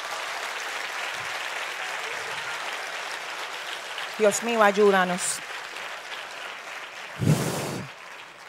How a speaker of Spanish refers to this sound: Si quiere aplaude bien y si no, no.